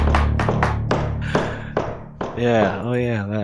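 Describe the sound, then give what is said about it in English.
Six sharp, loud knocks on a door in an uneven rhythm, like someone rapping insistently, followed by a voice speaking over a low background hum. “I don't see why not, guys, except for the massive rapping at the door.”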